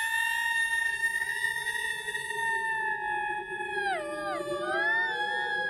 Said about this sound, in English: What the fuck is that? Sounds like the wind whistling through the shamrocks. Mother of Christ, the Banshee has come again as I knew she would. The Banshee appears in her full spooky glory.